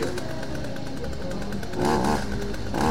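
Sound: chainsaw running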